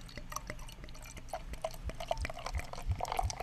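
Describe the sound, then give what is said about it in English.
A golden, slightly hazy 8% ABV beer is poured into a glass, a steady gurgling stream of liquid with splashes and faint bubbly fizzing, no voices present. “So, pours out a lot lighter than the six.”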